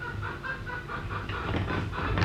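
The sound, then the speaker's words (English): Chickens cluck in a steady, overlapping series of short calls, with a constant low background hum running underneath and no one speaking. “What's that? That's chicken.”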